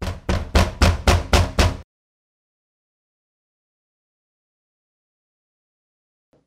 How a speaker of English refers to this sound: And then it happens. There is a knock at the front door. No one ever knocks on the front door. They all know to come in the back.